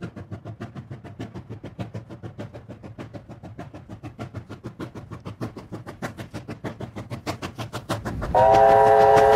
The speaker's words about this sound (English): All trains consist of 13 wagons which are permanently coupled and operate in a push-pull configuration. A fully loaded train weighs about 1500 tons and is hauled by a JS class 282 locomotive.